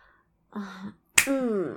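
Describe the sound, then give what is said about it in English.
A single sharp slap of a hand against the bare skin of the inner thigh, preceded and followed by a person's drawn-out vocal moans. “Slap the inside of my thighs.”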